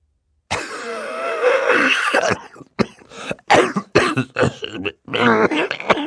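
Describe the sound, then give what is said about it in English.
A man coughs hard into a handkerchief, starting with a long, rasping fit and breaking into a string of choppy, muffled coughs and throat-clearing bursts, with no talking. “For several seconds he coughed into a handkerchief while everyone waited for him to speak.”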